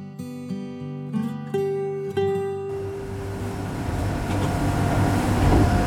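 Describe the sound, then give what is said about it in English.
A boat engine hums with a strong tonal drone that shifts pitch in steps during a run east to about 3-4 miles off the Vermilion, then gives way to a loud, rising rush of wind and water. “After about an hour and 15 minute run east to about 3-4 miles off the Vermilion, we are throttling down and we'll see what happens here.”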